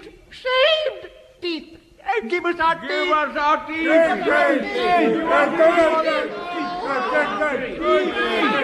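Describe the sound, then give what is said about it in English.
A crowd of toothless, ragged men in brown paper nightshirts coming out of an underground dungeon, clamouring together, a jumble of overlapping shouts and excited chatter that swells quickly after a brief opening cry and stays loud and dense throughout. “Dear listeners, from out of an underground dungeon came a crowd of toothless, ragged men in brown paper nightshirts.”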